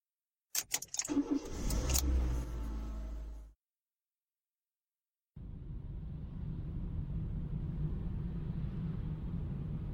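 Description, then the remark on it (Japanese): Keys jangle and a car engine turns over, then after a brief pause a steady low engine and road rumble continues as the car drives on, moving further away from home, even, with no voices. “ほーら、どんどん家から離れていく。”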